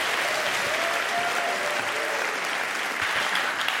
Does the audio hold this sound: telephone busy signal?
no